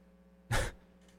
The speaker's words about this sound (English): His yawn interrupted him.